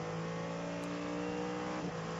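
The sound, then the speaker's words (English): The engine of the number 48 Cadillac race car, driven by Simon Pagenaud, heard through its onboard microphone drones loudly and steadily, a continuous buzzing hum with a strong tonal whine, shifting slightly in pitch near the end. No one speaks. “Pagenaud has stayed aboard the Cadillac, the number 48 car, and it sounds reasonable enough from the onboard microphone.”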